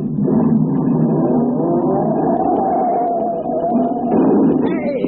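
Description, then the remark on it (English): A taxi engine revs loudly and steadily, pitch climbing as the vehicle pulls away, a continuous motor roar lasting several seconds with no talking. “Now, I got to park the hack.”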